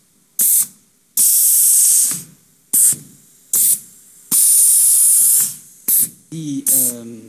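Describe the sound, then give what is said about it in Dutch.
Compressed air hisses in a series of sharp bursts, some brief puffs and others longer sustained blasts, loud, with a short voiced sound near the end, as air fills small pneumatic artificial muscles, elongated bags that swell like balloons to move a robot joint in place of motors. “Die kleine spiertjes, want dan gaan we nu een kleine vorm van die spieren, die we dus met lucht gaan vullen, gaan we eigenlijk de motoren die normaal in robots worden gebruikt vervangen.”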